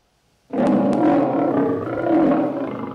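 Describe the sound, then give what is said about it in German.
A lion lets out a loud, deep roar that begins abruptly after a moment of silence and rumbles on steadily, rising and swelling again before tapering slightly at the end. “Es ist der Held der Tierwelt. Der Löwe.”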